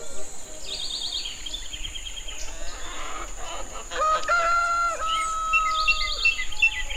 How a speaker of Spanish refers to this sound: Amanece y ahora los grillos, los sapos y hasta el acordeón han enmudecido ante el canto de los pájaros y el rugido de una quebrada